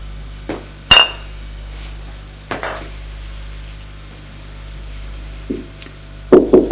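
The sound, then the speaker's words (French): A few scattered clinks of glass ring out over a quiet background, then a quick burst of three solid knocks on a door at the end, louder than anything before. “On frappe à la porte et soupire, pose la bouteille et les deux verres.”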